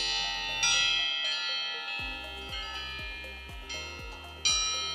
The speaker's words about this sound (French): Une sonnerie, c'est des tiges d'acier qui s'entrechoquent. Bon, on peut les entendre, tiens, ça ressemble à ça, je crois.